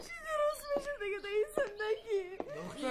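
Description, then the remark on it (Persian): A young woman, addressed by her mother as her daughter, cries and wails, her voice rising in long, high, quavering moans broken by sharp catches of breath, continuous and distressed throughout. “گریه نکو، فدایت شم دختر من، هرچی درست میشه.”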